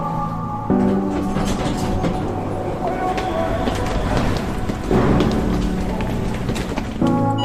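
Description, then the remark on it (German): A regional train approaching its next stop, Potsdam Hauptbahnhof, rolls along the rails, a steady loud rumble and clatter heard from inside the carriage, with tonal hums rising and falling and occasional louder surges. “Damen und Herren, nächster Halt Potsdam Hauptbahnhof. Die Ankunftszeit 7.58 Uhr, heute Gleis 1.”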